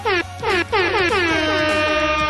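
A loud, blaring air horn sounds in several harsh, sustained blasts that fill the whole clip, each burst bright and brassy with a slightly wavering pitch.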